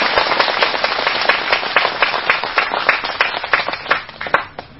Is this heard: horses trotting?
no